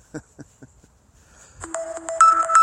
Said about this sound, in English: Oh, dear. Sorry about that. Some kind of notification coming in.